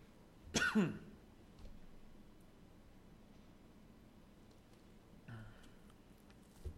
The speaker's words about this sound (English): remind me to edit out my coughing fits when I put this up.